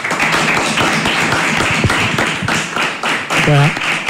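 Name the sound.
applause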